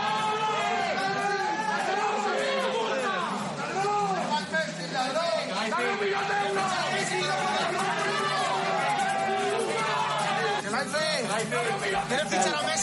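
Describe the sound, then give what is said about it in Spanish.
A dense football crowd roars and shouts insults at Al-Khelaifi continuously, many voices overlapping in loud, rising and falling chants and yells, sustained throughout with no single voice standing out. “Bueno, pues esos mismos insultaban hoy al Al-Khelaifi.”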